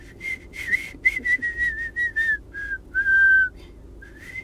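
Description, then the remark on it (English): Someone whistles a short, wavering tune alone, with breathy, uneven notes that wobble in pitch and break off, ending on a longer held tone; fairly clear. “I can try to whistle something. It's pretty horrendous.”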